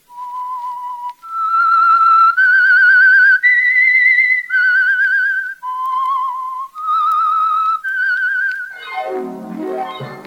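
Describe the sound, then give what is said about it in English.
The lone whistled theme tune of The Whistler, a Meisterbrau-presented radio mystery drama: about eight sustained, wavering notes stepping up and down, loud, ending in a quick falling swoop. No voices. “That whistle is your invitation to another Meisterbrau mystery drama, presented by The Whistler.”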